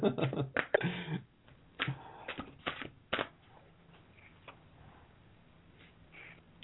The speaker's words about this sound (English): Can you hear those cards shuffling? Why, yes, we can.